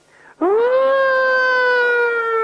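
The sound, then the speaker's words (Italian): A loud, siren-like howl starts abruptly, swoops upward, then holds as one steady wailing tone for about two seconds, with no talking. “Che c'è, la sirena? Che succede? Che arriva l'ambulanza?”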